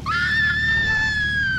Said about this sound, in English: Do you want to scream? No, I'm not going to scream. I'm going to have to let someone else scream for you then.